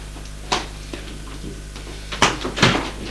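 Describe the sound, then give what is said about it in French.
A door is handled as a man goes out through it: a sharp knock-like click, a faint thud, then a cluster of louder clunks and rattles near the end, over a steady low hum with no voices. “Il va vers la porte pour sortir.”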